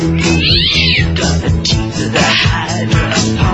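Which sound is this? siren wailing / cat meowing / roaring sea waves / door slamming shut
cat meowing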